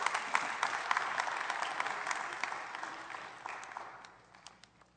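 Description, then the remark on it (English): A crowd applauds steadily with dense, overlapping claps at moderate volume, then the clapping thins out and fades over the last second into a few scattered claps. “Go ahead and clap, and I'll take a glass of water.”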